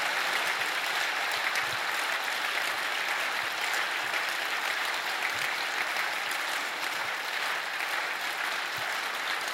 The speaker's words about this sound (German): Und lasst uns mal einen kräftigen Applaus geben für alle, die jetzt kommen werden.